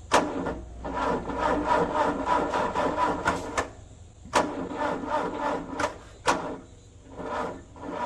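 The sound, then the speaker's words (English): The engine of a newsroom Zamboni ice resurfacer cranks over and over at 3 o'clock in the morning in a steady, churning rhythm without catching. A couple of sharp clicks break through, and the engine never starts. “This was me at 3 o'clock this morning trying to fire the Zamboni.”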